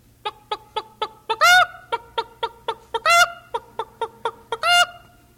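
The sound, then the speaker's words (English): Hens in a chicken yard in Florida, looking for a place to lay eggs, cluck in a steady series of short clucks, broken three times by louder, drawn-out squawking cackles, with no voices present. “Once they come out of the hen house, they'll be singing a different song.”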